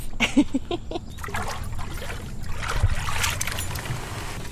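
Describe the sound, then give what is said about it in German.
Someone climbs into a small boat on the water at La Boquilla, a fishing village at the northernmost point of Cartagena, Colombia: a few knocks and thumps against the hull at first, then steady sloshing and splashing water around the boat. “So, jetzt bin ich hier gerade in ein Boot eingestiegen, und zwar in La Boquilla,”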